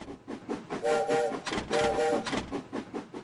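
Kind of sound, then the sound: vehicle, train sound effect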